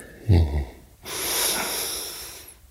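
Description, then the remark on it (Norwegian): A deep breath drawn in with a short, throaty rasp, followed by a long, steady exhale that hisses out for over a second during a breathing exercise for the back and core muscles, with no talking. “Så åpner du opp, og så puster inn og ut.”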